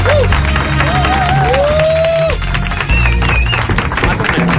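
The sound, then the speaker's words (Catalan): A studio audience bursts into loud, sustained applause, dense clapping filling the space, with a few whistles and cheers rising over it. “Un aplaudiment, per favor, per aquesta...”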